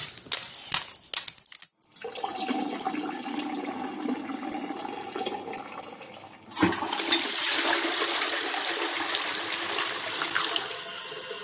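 A few sharp clicks, then a toilet flushes with a loud rushing surge, followed by a steady stream of running tap water as paws are washed. No one speaks.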